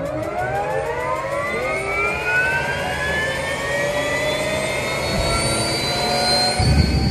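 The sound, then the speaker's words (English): KSL's Chopper 5 helicopter flying with photographers aboard, its loud turbine whine climbing steadily in pitch over a constant, heavy engine roar, with no voices. “ahead of the Artemis 1 launch, KSL photographers jumped in Chopper 5 and took to the sky.”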